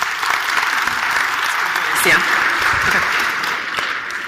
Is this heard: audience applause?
yes